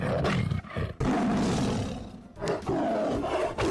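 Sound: tiger roaring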